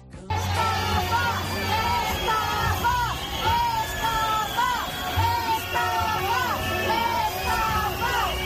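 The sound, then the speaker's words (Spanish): A large, angry concert crowd at Monte del Gozo chants "estafa" (scam) over and over in unison after learning the singer would not take the stage, a loud, steady rhythm rising above dense background hubbub throughout. “Bueno, gritos de estafa, menudo cabreo tenían los asistentes a ese concierto.”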